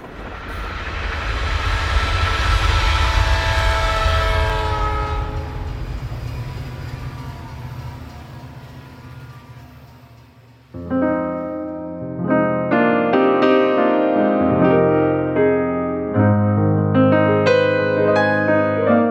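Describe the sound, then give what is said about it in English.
A steady rumble of a moving train heard from inside a carriage fills the first half, fading slightly before sustained tonal music abruptly takes over. No one speaks. “Stories that all happened on a particular journey, on a particular train, on a particular night.”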